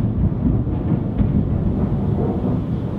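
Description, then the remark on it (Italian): A deep, steady rumble of thunder from a lightning strike rolls continuously for a few seconds, heavy, low and fairly loud, with no voices over it. “C'è appena stato un lampo, penso che l'avete visto sulla mia faccia.”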